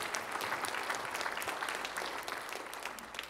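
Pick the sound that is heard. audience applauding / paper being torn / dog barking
audience applauding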